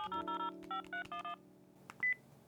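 A quick run of about seven short, bright electronic phone keypad beeps in uneven rhythm over a low steady hum as a reply email is sent, followed by a couple of soft clicks and a brief high chirp.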